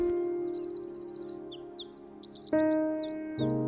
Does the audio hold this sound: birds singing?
yes